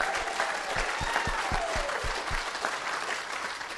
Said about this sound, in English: Come on, give him a round of applause.